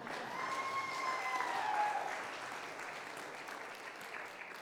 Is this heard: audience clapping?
yes